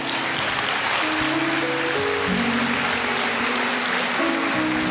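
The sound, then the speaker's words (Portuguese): A church audience applauds the preacher as he ends his sermon, in a dense, steady wash of clapping that holds its level throughout, while sustained low keyboard notes shift underneath. “Meus irmãos, o problema é que quando acontece um negócio desse, a gente não sabe se a igreja está aplaudindo o pregador ou a esposa que mandou parar.”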